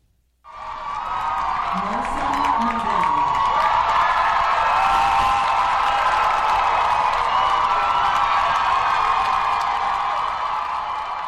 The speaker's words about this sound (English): On Monday, Palestinian student Mohsen Madawi walked across the stage to receive his GS diploma from the Columbia University School of General Studies. Students erupted in thunderous applause. There was a standing ovation.